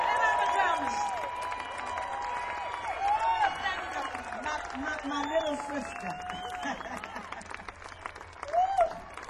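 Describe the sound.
An audience applauds a Grammy-winning singer steadily throughout, a dense crackle of many hands clapping, while a man speaks over it and a few cheers rise near the end.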